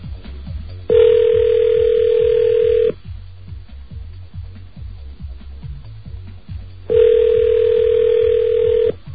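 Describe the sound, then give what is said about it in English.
A phone that was not turned off rings twice during a test of Sprint voicemail and numeric paging, each ring a steady, buzzy electronic tone lasting about two seconds with a long pause between, over a faint, rhythmic low thumping in the background. “You did turn the phone off, didn't you? You didn't turn it... Well, that's why it's ringing.”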